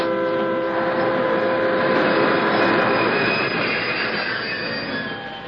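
A train brakes for a rock slide on the track, grinding along with loud, sustained metallic squealing from its wheels, several high steady tones held over a rumbling, clattering undertone that eases slightly toward the end.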